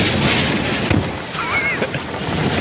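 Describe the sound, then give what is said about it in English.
Strong storm wind roars and buffets without pause, a loud, steady rushing with gusty low thumps, and a faint, brief whistling tone rises partway through. The wind is buffeting a storm tracker who has got out of his car to take a wind reading and can barely stand. “The wind is just kicking his ass. He can't even stand.”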